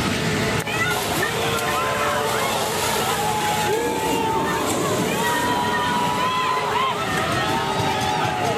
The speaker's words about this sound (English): Protesters using water cannons and tear gas to disperse the crowds. Watch out, this poor guy's about to get knocked down. Bam! There he goes.